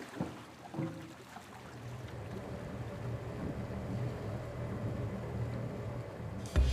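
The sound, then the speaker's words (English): A boat moving on water, its low engine drone humming steadily under a wash of water and wind noise, continuous throughout with a brief louder bump at the very end. “You getting on this boat, or what?”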